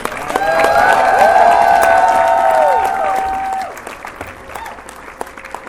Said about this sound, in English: Audience, cheer them on as they depart.